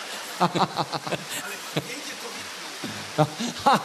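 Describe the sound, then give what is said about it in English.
A steady, even hiss of rain fills the background throughout, with short bursts of a person's voice speaking over it in the foreground. “Ja potom, keď ten dáž trošku prestane, tak poviem vám, že čo sa tam našlo v Severnej Afrike.”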